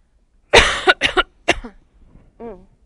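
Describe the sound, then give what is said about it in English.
Three harsh coughs in quick succession, the first long and raspy, followed by a brief breathy throat-clearing sound trailing off at the end. “I got a bad cough this morning.”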